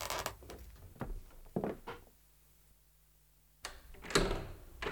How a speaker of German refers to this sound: Justus schlich auf eine zu und drückte die Klinke.